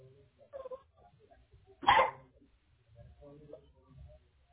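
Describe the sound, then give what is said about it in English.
A single loud, sharp dog bark cuts in, surrounded by quieter muffled talking before and after it. “Hold on, let me try to get this dog out.”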